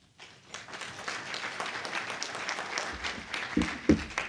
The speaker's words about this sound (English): And you know, I really want to, we need to give a big round of applause to these two.